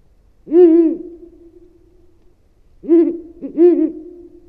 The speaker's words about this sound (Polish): A tak śpiewa puszczyk uralski.